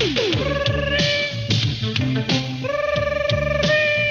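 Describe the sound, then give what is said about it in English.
A telephone ringing in repeated bright, warbling bursts, layered over a steady, thumping low bassline that keeps a regular beat throughout. “Ring, ring, ring.”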